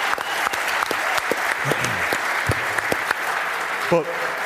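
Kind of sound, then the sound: crowd, round of applause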